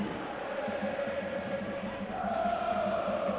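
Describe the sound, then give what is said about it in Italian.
Ascoli football supporters chant together in a stadium during a match, a sustained sung roar of many voices that swells louder partway through and stays strong to the end. “Crescono i cori, il sostegno dei tifosi ascolani.”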